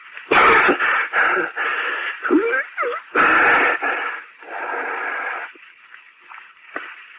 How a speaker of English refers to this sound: Hey, mister, you all right? Cough up his head. No. He's not breathing.